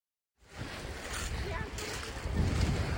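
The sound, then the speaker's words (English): Waves wash against the rocky beach of Griswold Point in Old Lyme, Connecticut, at the mouth of the Connecticut River, in a steady roar mixed with wind buffeting the microphone, the surf swelling louder toward the end. “At the mouth of the Connecticut River is Old Lyme's Griswold Point, a gorgeous rocky beach that's crowded with visitors today,”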